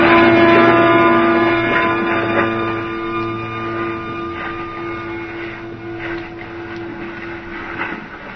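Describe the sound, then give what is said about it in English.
A boat's engine drones loudly and steadily as the vessel is towed at 20 knots, full speed, a continuous deep mechanical hum with a rushing, churning undertone, easing slightly in volume as it runs on with no one speaking. “20 knots, full speed. Pulling us away fast.”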